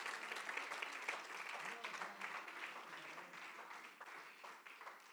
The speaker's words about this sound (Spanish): Mano, si va a aplaudir, aplaude. If you're going to clap, clap right. Y si no quieres aplaudir, no aplaudas.